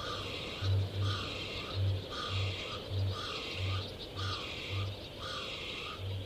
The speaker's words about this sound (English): Kākāpō, parrot of the night.